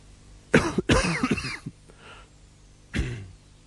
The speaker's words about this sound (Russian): А скажешь на родном языке, тут же об него споткнешься и, как бы извиняясь, откашляешься. И даже если это слово «подумать» там у себя в мозгу, подумаешь, и тут же, как бы извиняясь за него, споткнешься и откашляешься.